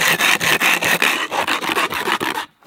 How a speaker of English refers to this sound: So this can has no opening tab, and all I have is the can and a spoon. If I push really hard on the side, which I must say is not easy, you shimmy it all the way around the can. I can't do this. Fail. We're gonna open a can on the sidewalk.